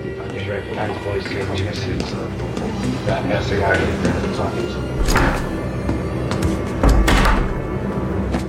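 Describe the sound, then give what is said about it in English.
A bathroom door opens and then shuts with two solid thuds a couple of seconds apart, over a steady background murmur of indistinct voices. “Moments later, she shuts herself into the bathroom with the pillow.”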